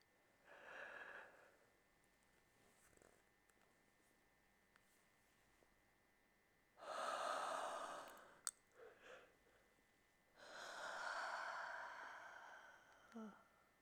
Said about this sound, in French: Je baille.